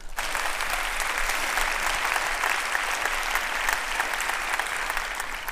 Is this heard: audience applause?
yes